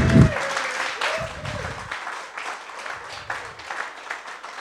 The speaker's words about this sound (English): Guys, round of applause for our actors.